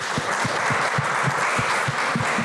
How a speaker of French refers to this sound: Allez-y, applaudissez, hein, vous pouvez.